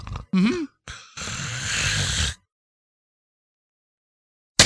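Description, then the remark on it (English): A voice imitates a gentle snore: a few short breathy, rattling bursts followed by a longer raspy exhale, then silence. Moderately loud, with no other talk. “So it's a gentle snore where you're going.”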